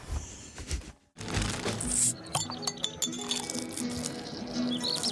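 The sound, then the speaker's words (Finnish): Beer glasses clink together several times in a toast among friends amid a busy, lively background, bright chiming taps scattered over a few seconds after a brief pause. “Kippis, olut ystävien seurassa.”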